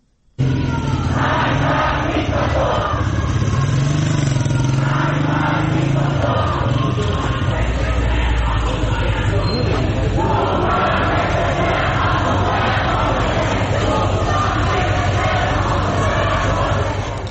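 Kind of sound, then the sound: crowd, protesting students chanting slogans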